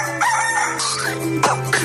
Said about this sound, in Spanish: El gallo.